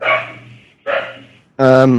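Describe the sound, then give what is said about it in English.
Guard dogs bark three times in quick succession, loud, with short pauses between the first two barks and a fuller, more drawn-out final bark. “Well, I can hear the guard actually, dogs.”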